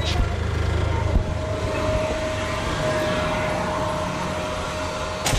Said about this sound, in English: Forklifts whizzing by, and the audible hum of lights greet you as you enter the Daisy Factory in Rogers.